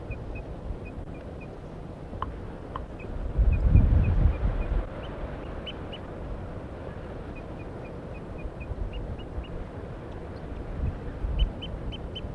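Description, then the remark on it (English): A wild bird up in a pine tree gives soft, evenly spaced toop notes and quiet alarm calls in short runs, faint against a steady low rumble of background noise, with no voices. “The decoys are just giving soft alarm calls, and so is the wild bird, now tooping.”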